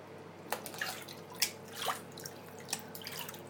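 Water splashes and drips in irregular bursts, a few sharper splashy hits standing out over a constant watery hiss, as a baby is bathed; no one speaks.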